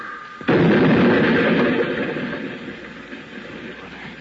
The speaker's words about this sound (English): We're going faster! We're going up on the sidewalk! Hang on. I'm going to crash.